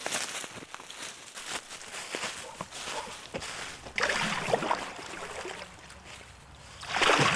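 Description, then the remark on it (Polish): Kayak paddle strokes splash and swish through the water of the Wieprz River in Lublin Province, Poland, with a steady watery wash and louder bursts of splashing midway and at the end. “Pływanie kajakiem to od wielu lat pasja”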